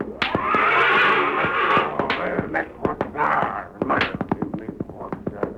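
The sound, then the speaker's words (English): Lightning Jim's big black horse, Thunder, neighs loudly and shrilly as someone tries to subdue it, its cries stretching over several seconds amid a flurry of sharp thumps and scuffling, like hooves stamping during a struggle. “making another attempt to subdue Lightning Jim's big black horse, Thunder.”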